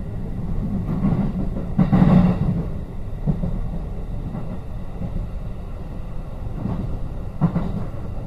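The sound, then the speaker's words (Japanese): A local train stopping at every station rumbles steadily along the tracks, a low continuous roar punctuated by recurring clacks from the rails in an uneven rhythm, heard from inside with no voices. “こうやってずっと一つ一つの駅を止まっていく電車に乗るんですね、いつも。”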